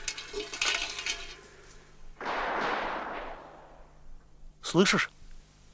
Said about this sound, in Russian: Слышишь? Что это за стрельба?